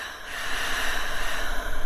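An airy rush of breath drawn steadily through the nose or mouth, a soft continuous hiss that swells slightly and holds for about two seconds, with no talking.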